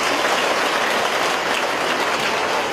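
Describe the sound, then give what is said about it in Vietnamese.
A crowd claps loudly and steadily throughout, a dense wash of many hands with no voices rising above it. “Tạ ơn Chúa và cảm ơn anh chị em bằng một tràng pháo tay thật lớn.”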